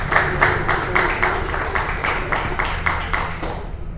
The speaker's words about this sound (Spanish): Bueno, les pido un aplauso para nuestras presentadoras y nuestra autora, nuestra presentadora y autora.